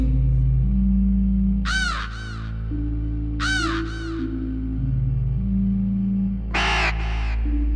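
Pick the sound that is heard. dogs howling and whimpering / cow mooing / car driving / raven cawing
raven cawing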